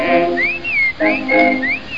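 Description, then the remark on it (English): A person whistles a short tune of sliding, swooping notes, fairly loud, over a steady musical accompaniment. “Everybody has a whistle like me.”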